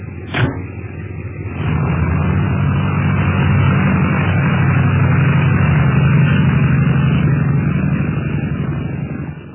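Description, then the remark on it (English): An airplane engine drones steadily in flight over the Himalayas, a low, throbbing hum with a broad roar that swells in after a sharp click near the start and holds loud and even. “I'm keeping an eye on them while you and Clint take the plane over these mountains.”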